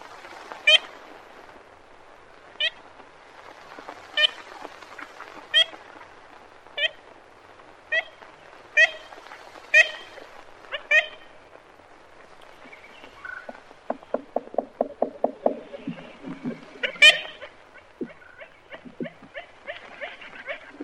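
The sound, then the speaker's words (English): A series of nasal, tooting ivory-billed woodpecker kent calls, spaced about a second apart, followed by a quick burst of rapid pecking taps and a few more calls, clear throughout. “This is some sound of the ivory-billed woodpecker.”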